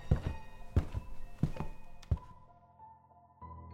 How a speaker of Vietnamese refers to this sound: Tiếng bước chân lại đi đến cửa hầm và dừng lại.